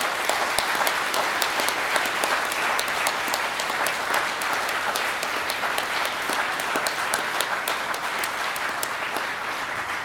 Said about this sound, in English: can you also now give us a really, really big round of applause for everybody that I've just named? Thank you.